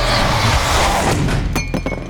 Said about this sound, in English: From behind the bars, the great snake Jormungandr's scaly tail lashed out at Thor's legs, knocking him over. His mug fell to the ground with a clank.